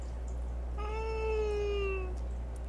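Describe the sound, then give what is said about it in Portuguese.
A cat named Galeano lets out a single long, drawn-out meow that drifts slightly downward in pitch during a live stream, heard clearly on its own over a faint steady background hum. “O gato do Chico, ele é estrela.”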